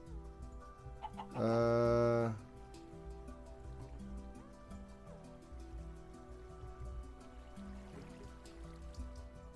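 chickens clucking

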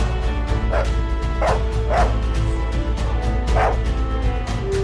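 dog barking

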